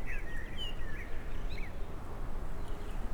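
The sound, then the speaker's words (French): A steady, unbroken rush of wind fills the background outdoors in the mountains in the morning, on the way toward the Col de Lourdes and the Anouillas plateau, with a few faint, high bird chirps breaking through now and then. “Bruit de fond incessant du vent”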